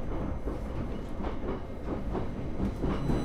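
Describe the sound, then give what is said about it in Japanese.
A steady, loud rumble of a JR East Tohoku Line local train bound for Koriyama, next stopping at Minami-Fukushima, rolling along rails, with faint rhythmic clacks and a low mechanical drone filling the space; no one speaks. “This is a Tohoku Line train bound for Koriyama.”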